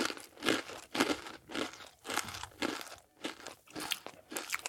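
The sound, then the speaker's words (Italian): Sweet, crunchy corn flakes eaten from a bowl of milk being chewed, with repeated loud, dry crunches in a steady rhythm of about one bite every half second, no voices present. “Will estrae dal forno la sua creazione, prende una scodella di latte e assaggia il risultato.”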